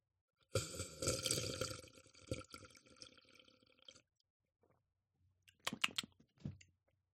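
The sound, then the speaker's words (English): A person sips water: a wet slurp of water drawn in for a few seconds, then a short pause and a couple of quick gulping swallows with small clicks, no talking. “Sip my water. Listen to this. This is some good Foley work here.”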